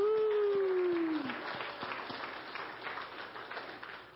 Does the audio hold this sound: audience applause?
yes